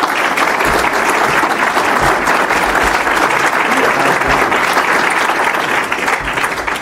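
An audience claps steadily for about seven seconds for a speaker at the end of his talk, a dense, loud wash of overlapping hand claps that holds even before tapering slightly at the end, with no voices over it.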